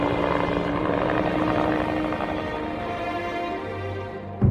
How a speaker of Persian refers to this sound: دو یا سه بالگرد جنگی که در ارتفاع پایین هم پرواز می‌کردن از روی درختان عبور کردن، اما به خاطر انبوه درختانی که در زیر اون مخفی شده بودیم ما رو ندیدن. حدود 10 دقیقه بعد بالگردها برگشتن و بعد از عبور از فراز درختان دور شدن.